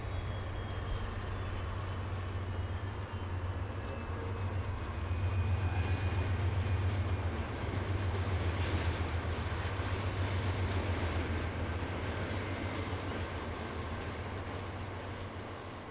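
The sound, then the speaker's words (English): A freight grain train in Winnipeg rolls past on the rails with a steady, heavy low rumble and clattering wagon noise, loud and continuous for the whole stretch, swelling slightly midway, with no voices. “Das war …, … von …”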